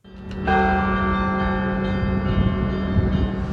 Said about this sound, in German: Nein, das sind nicht die Kreml-Glocken. Hier läuten einige der 350 Kirchen des Gebiets Kursk. Dort wurden Trauermessen abgehalten.